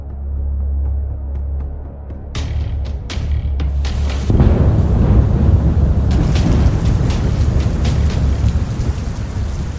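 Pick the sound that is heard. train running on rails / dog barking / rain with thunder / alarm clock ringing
rain with thunder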